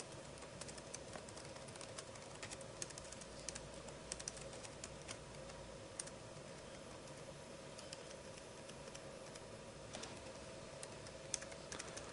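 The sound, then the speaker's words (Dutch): Steady, rapid typing on a computer keyboard, with irregular clicky keystrokes running continuously over a faint background hum; no one speaks. “Sorry dat ik even stil rol, maar ik kan niet typen en praten tegelijk.”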